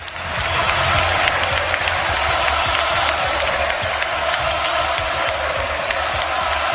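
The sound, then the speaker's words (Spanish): A large arena crowd at the Wizzing Center in Madrid cheers and applauds steadily before an FC Barcelona match, paying tribute to the retiring player Bomba Navarro and chanting his name. A dense wash of clapping and roaring voices holds loud and constant throughout, with a low rumble underneath. “Se ha retirado y ha recibido el homenaje de todo el pabellón.”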